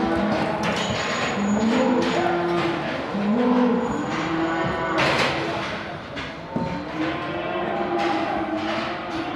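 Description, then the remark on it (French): Several Limousin calves moo and bellow in overlapping calls inside busy livestock market pens, where males and females are kept separated while waiting to be sold, with metallic clanks, rattling gates and a steady crowded din running underneath throughout. “Et tous les veaux sont mis, les mâles et les femelles sont séparés, mais ils sont mis dans les cases en attendant d'être vendus.”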